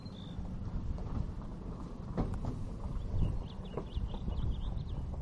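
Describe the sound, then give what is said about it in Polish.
Horses walk away outdoors by a stable in countryside surrounded by forest, a few irregular hoof clops heard over steady wind rumble, with small birds chirping faintly in the background; nobody speaks. “Koniki odjeżdżają.”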